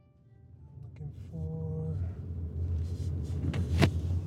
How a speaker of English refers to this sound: I just pulled into a driveway where I'm greeted by Marion Morris